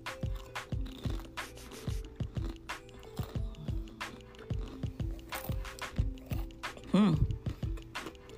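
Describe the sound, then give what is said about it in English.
Loud, crisp crunches from someone chewing a chip, repeating in a steady rhythm of sharp crackly bites with wet mouth sounds between them, carrying on for several seconds. “Let me crunch on this one chip, okay?”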